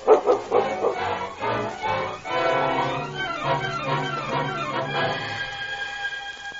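A big dog named King barks and yelps in a rapid, excited series of loud calls, ending in a drawn-out whining tone.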